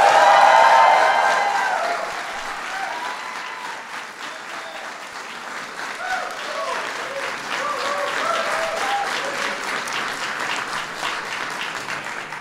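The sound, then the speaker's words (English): A large audience claps to welcome Speaker Nancy Pelosi, loudest at the start and then settling into a sustained, dense wave of applause, with faint indistinct voices and cheers mixed into the crowd noise. “It starts at the top, though, and I want to give a huge welcome and big round of applause for somebody who will go down as one of the greatest speakers in our history, Speaker Nancy Pelosi.”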